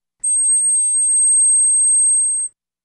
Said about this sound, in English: We have a recording of the sound of the smallest pipe on this new organ. Listen to this. This is quite something.